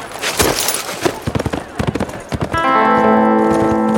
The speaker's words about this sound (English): Farley set his horse into a long trot. He didn't bother to look back to see if Andy was following.